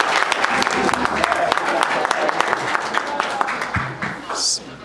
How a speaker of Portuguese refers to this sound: Então, de pé, uma salva de palmas para vocês. Todo mundo de pé.